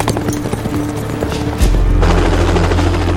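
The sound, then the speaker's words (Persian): A loud, low helicopter drone swells in partway through and stays steady, layered over rhythmic hoofbeats of horses being ridden and rumbling movement. “به نظرتون هلیکوپتر اونجا داره چه غلطی میکنه؟”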